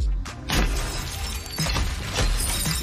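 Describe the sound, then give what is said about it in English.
A car being smashed, as when John Goodman's character destroys a car in the film The Big Lebowski: repeated heavy crashing blows, about four or five, each followed by glass shattering and tinkling debris, loud and harsh with no voices. “Remember John Goodman's character in The Big Lebowski when he's destroying that guy's car, Larry's car, and it turns out it wasn't Larry's car at all?”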